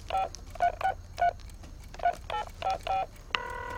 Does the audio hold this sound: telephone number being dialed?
yes